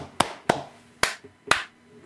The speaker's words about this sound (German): Mal schnell klatschen.